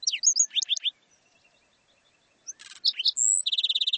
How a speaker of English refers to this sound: Each of these measures would help sustain the black-throated sparrow's gentle song.